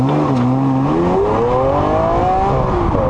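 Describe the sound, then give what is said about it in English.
A loud engine roars as a Tesla and a Lamborghini accelerate hard in a quarter-mile drag race, the revving pitch climbing steadily for about three seconds with a constant rushing whir beneath it and no voices. “They left a Lamborghini in the dust. Now, the Lambo does eventually catch up.”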